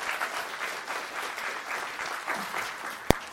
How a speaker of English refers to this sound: If you're glad they're here, give them a good round of applause.